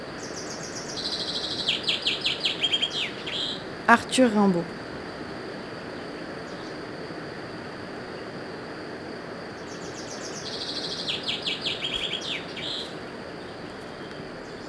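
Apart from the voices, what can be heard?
bird singing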